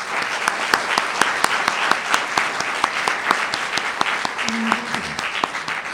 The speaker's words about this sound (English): So a warm round of applause, please, for all those folks.